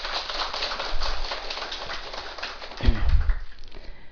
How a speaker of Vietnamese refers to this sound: Xin quý vị vỗ cho tràng pháo tay.